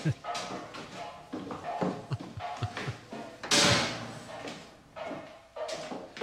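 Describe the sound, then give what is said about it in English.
A man bangs a pot in his room: a string of hard, clattering knocks, with one loud crashing clang in the middle, mixed in with voices talking. “He's just banging a pot in his room.”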